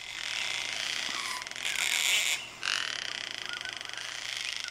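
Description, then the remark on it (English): A gang-gang cockatoo, a small gray parrot with a bright red crest from the alpine forests of southeastern Australia, gives a run of harsh, creaky, rasping calls, like a squeaky gate, in loud overlapping bursts with a brief dip in the middle. No one speaks. “The alpine forests of Australia's southeast are home to an iconic pint-sized gray parrot with a bright red mohawk, and a call that's been described as a flying creaky gait.”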